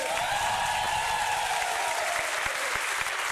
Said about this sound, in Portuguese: Muito obrigado, palmas pra vocês, aê!